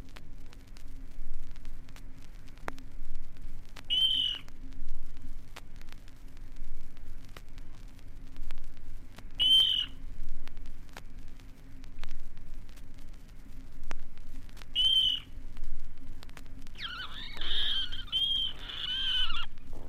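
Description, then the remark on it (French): A water rail calls in the reeds at the edge of a pond: short, clear, high squeals repeated about every five seconds, ending in a longer, busier burst, over a steady low hiss. “Au bord de l'étang, dans les roseaux, ce sont les trilles claires du râle d'eau.”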